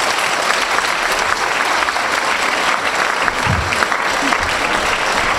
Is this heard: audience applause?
yes